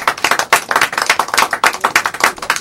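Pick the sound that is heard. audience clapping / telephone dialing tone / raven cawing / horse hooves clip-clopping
audience clapping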